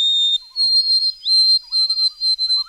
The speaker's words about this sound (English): Or the long, clear whistles of the white-throated sparrow.